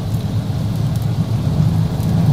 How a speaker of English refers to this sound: Raining like a son of a gun.